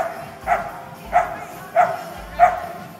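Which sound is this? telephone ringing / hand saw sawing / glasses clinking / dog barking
dog barking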